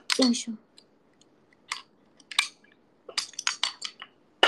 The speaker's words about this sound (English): Oops, that's my bottle water if you can hear.